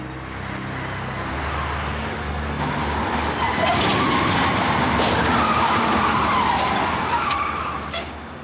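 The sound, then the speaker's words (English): A car's brakes lock up and its tires skid loudly across the pavement as the driver is forced to jam on the brakes when another car swoops in front, a sustained screech over engine and road noise lasting several seconds, with no voices. “Finally, the swoop car appears and makes its move, forcing the other drivers to jam on their brakes.”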